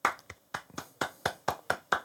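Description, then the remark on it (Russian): Steady rhythmic hand clapping, roughly nine sharp claps in quick even succession, fairly loud, with no voices, like a short round of applause. “Овации.”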